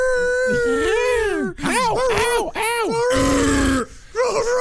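A werewolf sound effect: loud, drawn-out howls with wavering pitch, broken by snarling growls and guttural bursts over nearly five seconds.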